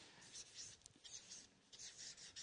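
Soft scratching of a pen moving across paper in short repeated strokes, quiet and papery with brief pauses between bursts, as someone fills sheets of paper with writing.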